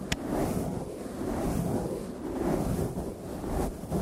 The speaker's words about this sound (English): You gotta get some nice makeup brushes for mic brushing and face brushing. Let's do some mic brushing, if you don't mind.